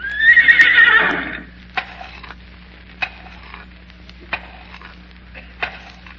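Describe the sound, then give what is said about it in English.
A trained horse lets out a loud, quavering whinny lasting about a second, followed by a series of sharp, evenly spaced hoof taps, each one distinct and separated by a short pause. “You tell me that's an educated horse there? Yes, sir, that's really an educated horse.”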